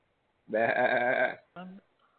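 A sheep bleats once in a long, quavering, wavering call, then gives a short second bleat right after, both fairly loud against a quiet background.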